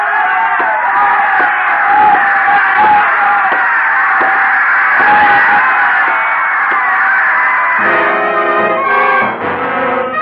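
A large crowd screams and roars at a championship sporting event in a dense, continuous wall of voices, loud throughout, with a sustained horn-like tone rising over the din near the end.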